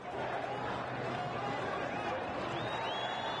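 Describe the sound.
A large crowd of pro-democracy demonstrators in Tahrir Square, Cairo, waving flags, fills the air with a dense, steady roar of many voices shouting together the rallying cry that Mubarak must go, with a few faint whistles rising above the din.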